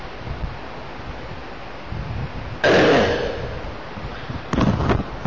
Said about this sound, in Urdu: سبحان اللہ کیا خوبصورت بارش ہوئی, ہوتی رہے گی انشاءاللہ.